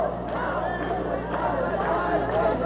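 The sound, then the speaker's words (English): A crowd of protest marchers murmurs steadily outdoors in the middle of Southwest Fifth Avenue by the Pioneer Post Office in Portland, some sitting on the pavement. Many overlapping voices blend into an indistinct babble with no single speaker standing out, with a low constant street hum underneath. “Fewer people than started the march are gathered now in the middle of the street on Southwest Fifth Avenue by the Pioneer Post Office.”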